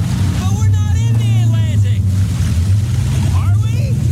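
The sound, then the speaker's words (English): A boat engine drones loudly and steadily on open water, a constant low rumble throughout, while voices talk over it in two brief stretches. “We're recording this Progressive commercial on a real boat”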